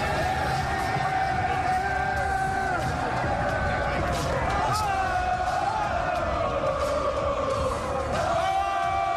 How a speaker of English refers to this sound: This is Knicks fans. They're just standing out in the street screaming.